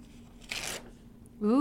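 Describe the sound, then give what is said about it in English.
A single short, crisp rip of paper tearing, lasting about a quarter second, followed by a voice starting to speak. “Can you give me a piece of that paper? Hold on. Yeah, let's get a nice audio rip.”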